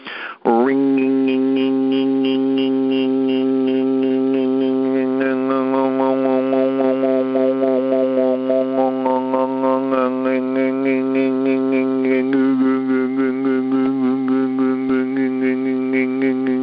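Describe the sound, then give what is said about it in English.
A single voice does overtone singing, holding a steady, buzzy low drone on an 'ng' sound at the back of the throat without a break while a thin, whistle-like overtone above it glides up and down, shifting pitch as the mouth shape changes from rounded to stretched out like an E. “See, all I'm doing is keeping the ging going in the back and then changing the shape of my mouth, rounding it to extending it out like an E.”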